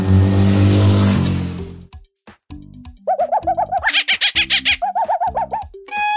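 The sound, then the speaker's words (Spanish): A motorcycle engine roars for about two seconds, then a monkey gives rapid, shrill chattering calls in quick bursts, ending with a brief violin note that cuts off almost immediately. “Una moto, un mono y un violín.”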